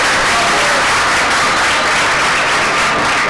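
Sustained audience applause welcoming a presenter at the Despierta UMH show at IES Cañadas de las Heras in Molina de Segura, a dense, steady wash of many hands clapping at full volume for a few seconds, with no one speaking over it.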